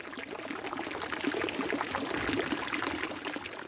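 Water splashes steadily from a fountain in Lucerne, a dense, continuous rush and spatter that stays fairly loud throughout, with no voices.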